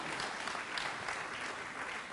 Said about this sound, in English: It's okay to clap. Amen.